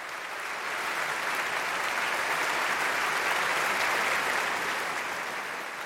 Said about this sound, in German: Beifall für das Leipziger Gewandhausorchester und seinen heutigen Dirigenten Peter Popelka.